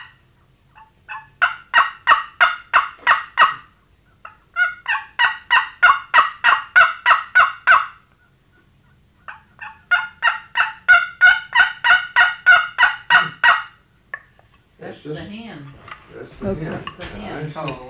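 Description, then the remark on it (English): A wooden friction call, made by rubbing wood across the side, imitates a turkey hen to call a gobbler with three long runs of rapid, raspy yelps, loud, separated by short pauses, before a voice begins speaking at the end. “That's the hen. That's the hen. Call. The gobbler will come today.”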